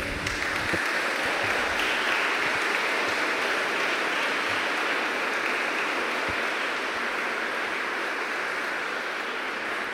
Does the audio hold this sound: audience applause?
yes